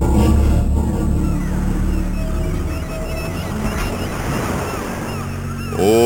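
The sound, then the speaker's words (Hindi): Ocean waves break and wash against the shore in a loud, continuous roar. The surf rumbles steadily throughout with no clear pauses, and a low hum sits beneath it. “इस समय वो समुद्र तट पर पूजन करने गए हैं।”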